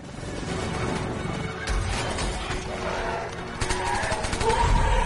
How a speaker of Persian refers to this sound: ببینید اینجا سرباز اسرائیلی چاره جز شلیک کرده، این نمیدون دیگه باید شلیک کنه دیگه.